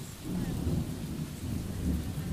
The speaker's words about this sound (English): Yes. Yes, that storm is quite dramatic. Right. The storm.